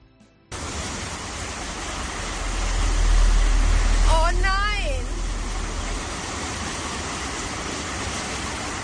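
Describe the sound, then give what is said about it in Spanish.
A loud, steady roar of rushing floodwater sweeps a car down a street in western Germany, in North Rhine-Westphalia or Rhineland-Palatinate, pouring unbroken through the whole recording, with a brief shouted voice rising over the torrent midway. “Cerca de una vecina en el oeste de Alemania que ve como su coche nada calle abajo por las fuertes corrientes de agua, en concreto en los estados de Renania del Norte-Westfalia y en Renania Palatinado.”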